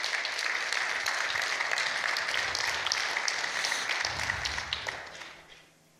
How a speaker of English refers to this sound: Clap your hands for Jesus this morning.